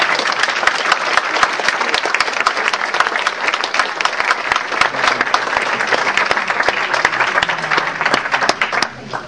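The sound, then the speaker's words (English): A sustained round of applause from an audience: dense, crackling hand claps at a steady loud level for about nine seconds, tapering off slightly at the end. “Can we have one more round of applause?”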